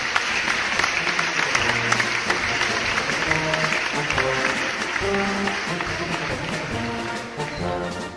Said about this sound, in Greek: Όταν τελείωσαν, πήδηξαν κάτω και υποκλήθηκαν, ενώ τα παιδιά χειροκροτούσαν ενθουσιασμένα.